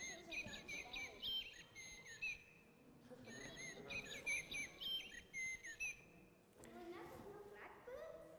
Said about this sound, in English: It's a toy, yes. These kids are too clever. A musical instrument bird. But do you know what? You got an idea? Will I let you see it? Nope. It's a blackbird.